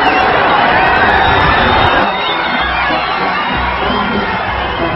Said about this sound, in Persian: این صدای بعد فریادی که میشنوید لحظه یه که ماشین رهبر به هر بخشی از جمعیت میرسه.